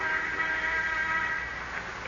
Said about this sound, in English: Until shortly before noon, the sound of the interoffice phone arouses him.